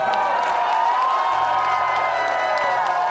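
A crowd cheers and whoops loudly and continuously, a dense wash of excited voices filling the room without pause, with no distinct speech standing out.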